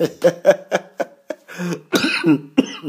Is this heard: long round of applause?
no